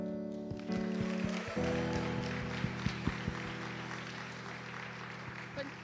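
An audience claps to welcome a young woman speaker, a dense, steady wash of applause that builds quickly and holds for several seconds, with a low electrical hum running underneath and a few sharper knocks.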